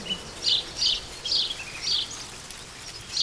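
Birds sing in a forest in a steady series of short, bright calls, about five bursts spaced evenly apart, over a soft, hushed outdoor background with no voices.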